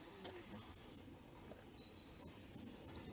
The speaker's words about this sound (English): Full forge gear, open the regulator a little bit. We have some drains are open, so we have some steam at the front visible as we start.